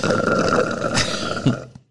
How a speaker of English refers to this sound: Is it bad if I suck this last bit down and it makes noise? No, go ahead. Feel free.